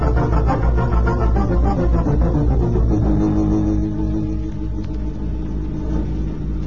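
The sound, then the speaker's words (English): A car engine rumbles steadily as the vehicle drives, a deep continuous drone that eases slightly lower partway through, with no voices. “All right, now just keep it rolling nice and easy and don't forget about this gun that's pointing at you.”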